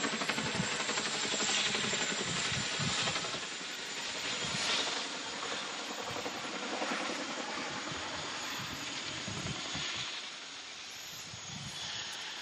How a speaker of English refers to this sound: Yeah, that one wasn't bad. That's a strange thing. It's one of those double propeller helicopter, whatever they are. I don't know what the things on the top are.